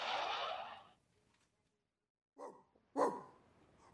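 dog barking

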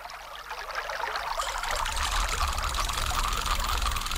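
river water flowing

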